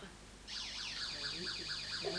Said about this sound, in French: C'est une sirène?